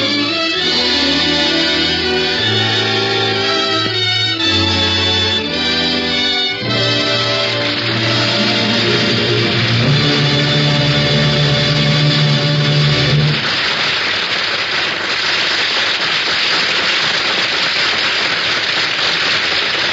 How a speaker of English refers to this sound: Ladies and gentlemen, the audience here in NBC's Studio 6A in New York City have been applauding the Ford Theater's presentation of A Star is Born.